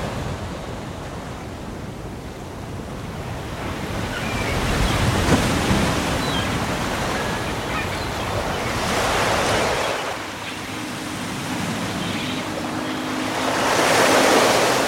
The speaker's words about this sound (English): Except the sea. Yes, the sea. It never stops.